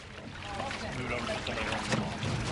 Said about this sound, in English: All day, boats came and went, ferrying residents to and from their inundated home. A small army of volunteers drove the boats.